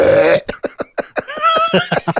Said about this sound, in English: And it was so freaking funny. It was just a burp. It was just a big old burp right in the power part.